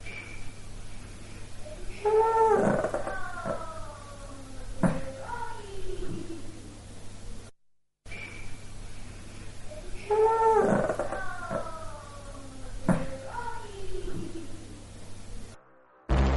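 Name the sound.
dog growling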